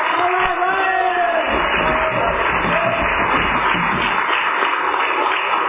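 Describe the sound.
An audience claps steadily to welcome the evening's speaker, a dense, even wash of applause that stays loud for several seconds, with crowd murmur and a few scattered voices mixed in.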